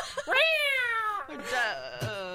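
A cat lets out a loud, drawn-out yowl that rises and then wavers downward, followed by a second strained, rising cry cut short near the end. It is clear, with no talking.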